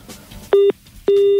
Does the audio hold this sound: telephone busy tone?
yes